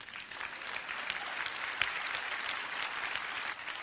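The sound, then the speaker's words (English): A crowd bursts into steady applause, many hands clapping at once in a dense, even patter that holds at a fairly constant loudness for several seconds, with no one speaking over it. “Yes, clap, oh.”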